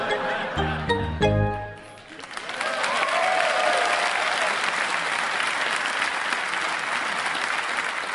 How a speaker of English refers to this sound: Was that an audience member clapping really loudly at the Jeb Gaddafi reference?